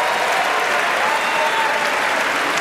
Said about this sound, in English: Oh, they're applauding the hometown boy.